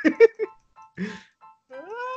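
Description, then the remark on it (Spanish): A cat meows several times: a few short, clipped calls, a pause, then a longer meow that rises in pitch and holds at the end. “Ah, y el pendejo gato se está regalando.”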